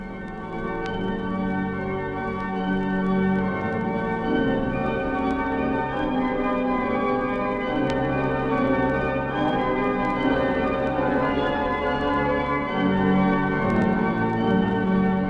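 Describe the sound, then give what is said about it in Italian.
Church bells ring steadily and loudly for the whole stretch, their overlapping metallic tones blending into a dense, continuous peal with no voices present. “Suonano le campane”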